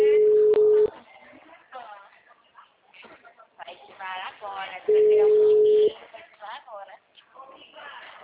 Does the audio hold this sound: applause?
no